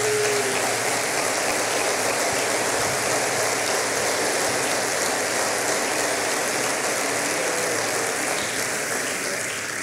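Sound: audience applause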